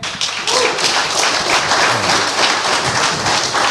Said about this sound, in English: Yes. Clap it up for that